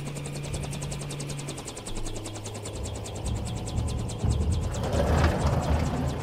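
A helicopter's rapid, steady rotor chop over a low engine rumble, growing gradually louder as it approaches, with no voices present.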